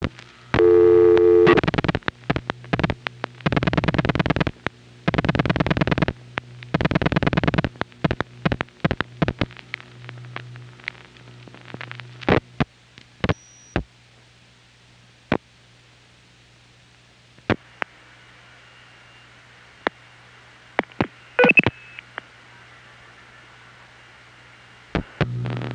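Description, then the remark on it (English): A Southwestern Bell RQS telephone test line tone after dialing 512009 and four more digits, over a low steady hum, with rapid bursts of clicking and pulsing in the first seconds that thin into scattered sharp clicks on a quiet line. “you can hear the Southwestern Bell RQS flashing with its tone.”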